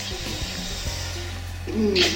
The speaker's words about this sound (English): Alright, now that sound was the vacuum pump being taken off of her ass.